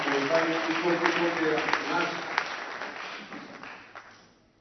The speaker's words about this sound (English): Let's just give a thunderous and shattering clap offering.